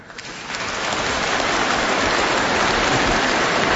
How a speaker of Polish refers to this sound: Teraz i zawsze, ale jeszcze nie usłyszeliśmy do końca, bo tutaj brawa rozbrzmiewały.